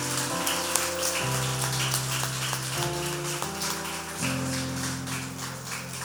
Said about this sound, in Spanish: Gracias, damos al Señor un aplauso por la vida de este caballero. ¡Aplausos!